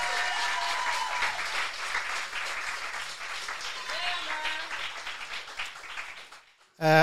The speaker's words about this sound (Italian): Applauso, tra virgolette.